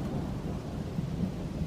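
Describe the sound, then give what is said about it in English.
Steady, dense rain pours down with a low, continuous rumble, evenly loud throughout with no pauses and no voices. “And it's raining.”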